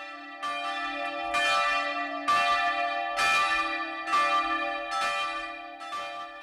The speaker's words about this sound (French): Alléluia, Cloche de Pâques.